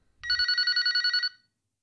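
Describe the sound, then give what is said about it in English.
A telephone bell rings in one sustained burst of rapid, evenly pulsing trills, loud, lasting about a second before cutting off into silence; a phone going off in church. “Will you shut your damn phone off?”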